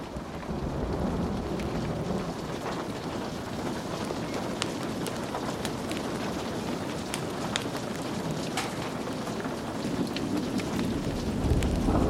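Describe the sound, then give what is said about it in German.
Steady, dense rain pours down with scattered sharp drips, while low thunder rumbles and swells underneath, growing heavier toward the end. No voices are heard. “Valentin lauschte aufmerksam und der Donner wirkte auf ihn so beruhigend.”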